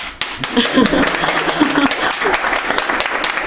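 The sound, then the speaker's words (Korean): An audience at a mission center gathering breaks into steady, loud applause for a speaker, a dense crackle of many hands clapping at once that holds for a few seconds, with a few voices faintly calling out underneath. “제가 여기 오지 않았더라면 이런 박수를 과연 살아가면서 받을 수 있었을까 하는 생각도 많이 해봤고요.”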